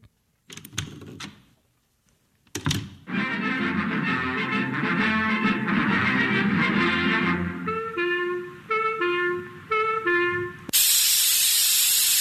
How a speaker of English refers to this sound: Ah, this doggone thing clogs up like a sentimental woman at a sad movie. What seems to be the matter, dearie? This paint spray goes along all right for a minute, but then it chokes up.